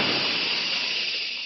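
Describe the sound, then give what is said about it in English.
A steady, loud hiss of a moisture spray jet in an advertisement for the Rowley 903 cigarette, bright and airy, holding evenly for about a second and a half before easing off slightly at the end. “That jet of fresh, pure moisture stands for the new, all-new Rowley 903 cigarette.”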